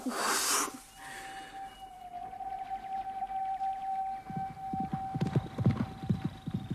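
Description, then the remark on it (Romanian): Horse hooves clip-clop in a steady, uneven rhythm that grows louder toward the end as a horse is taken out through a gate toward the train station, over a sustained high whistling tone and a brief burst of hiss at the start. “Cu calul, am văzut-o când a ieșit pe poartă cu calul.”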